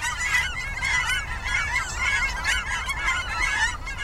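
A flock of cackling geese, which look like small Canada geese, calls continuously in quick, rhythmic, high-pitched yelps, overlapping one another over a steady low rumble, with no voices.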